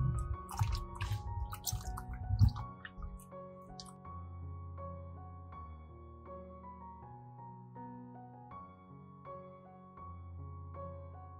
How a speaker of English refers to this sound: Finally, rinse the ginger several times with clean water to ensure that any remaining salt and dirt are completely washed away.